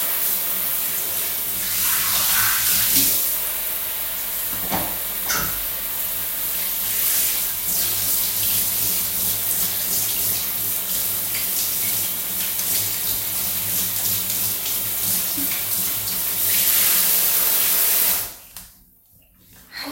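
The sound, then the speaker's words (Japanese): A shower runs steadily for about eighteen seconds to rinse something off, a dense hiss of spraying water with splashes shifting in and out, then cuts off abruptly into near silence. “シャワーで流します。”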